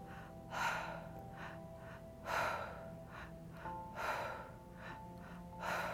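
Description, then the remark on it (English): Audible mouth breathing in a steady rhythm, two sharp inhales followed by one exhale, repeating several times over a soft, sustained droning tone, during an active breathing exercise. “So two breaths in, one breath out, all through the mouth.”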